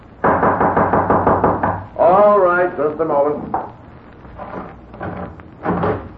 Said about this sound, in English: Suddenly a loud knocking at his door startled him.